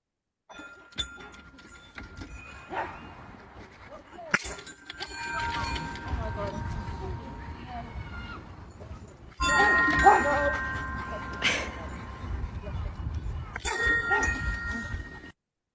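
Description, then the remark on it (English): A dog making music, expressing his dream: uneven, bell-like dings and clangs ring out over a busy, noisy background, with louder clusters of struck tones coming in bursts. “We have dog making music.”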